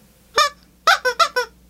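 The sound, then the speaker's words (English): A person's voice imitates a chicken clucking, fairly loud: one nasal cluck, a short pause, then four quick clucks in a rapid burst, with no other talking. “Me, cluckety cluck, cluck.”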